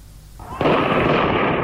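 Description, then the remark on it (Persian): After a brief quieter moment, loud, dense gunfire erupts and keeps going without pause, a harsh, crackling barrage, during the Bloody Friday events in Zahedan, Iran, as people throw stones from rooftops toward a police station. No one speaks. “مردمی که در میان صدای بیوقفه گلوله ظاهرا از بام خانه ها به سمت کلانتری سنگ می اندازند.”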